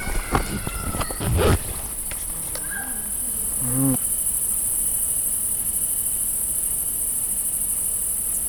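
Crickets chirp in a steady, high-pitched drone throughout, with a few brief knocks and rustles near the start and a faint passing hum midway.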